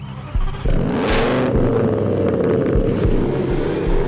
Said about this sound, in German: Man sagt ihnen Tuner oder auch Autoposer. Junge Männer, die ihre ganze Freizeit damit verbringen, ihre recht luxuriöse Autos aufzufrisieren, tiefer zu legen, sie mit glitzeriger Folie zu überziehen oder das Geräusch vom Auspuff aufzuschrauben.